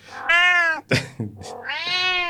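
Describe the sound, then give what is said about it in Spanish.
A cat meows, two long, drawn-out wails separated by a short burst of scratchy, breathy noise. The calls are loud and tonal, with no talking. “Maullando, ¿sí?”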